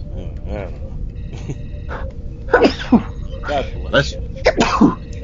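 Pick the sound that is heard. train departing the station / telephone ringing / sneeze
sneeze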